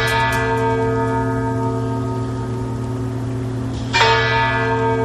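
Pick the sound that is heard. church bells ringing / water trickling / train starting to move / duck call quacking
church bells ringing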